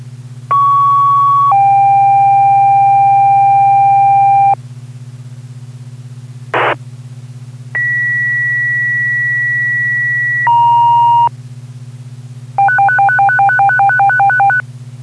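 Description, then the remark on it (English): A sequence of loud electronic fire department general alarm pager tones calling all personnel to a working structure fire on Cottage Street in Claremont: long steady pitches shifting in steps, a brief burst, more sustained tones, then a rapid warbling pulse, over a constant low hum. “Fire alarm, just make sure that a general alarm pager tone went out for all personnel, okay?”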